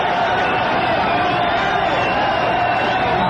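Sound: ballpark crowd cheering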